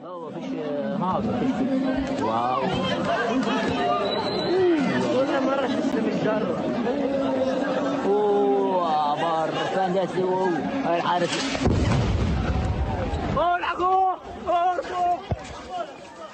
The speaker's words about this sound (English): That showed people playing in a schoolyard and then very quickly people running and screaming, "Run away," in Arabic.